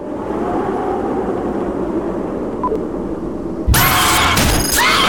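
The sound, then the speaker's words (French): A metro train rumbles steadily along the rails with a deep, continuous roar, then a sudden louder burst of harsh, hissing metallic noise cuts in near the end. “je suis obligé de prendre le métro.”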